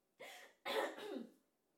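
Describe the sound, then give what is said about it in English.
Two harsh coughs in quick succession from someone who swallowed saliva the wrong way, the second longer and breaking into a double hack, as if choking slightly. No speech, just the coughing against a quiet background. “Almost swallowed my saliva the wrong way that way.”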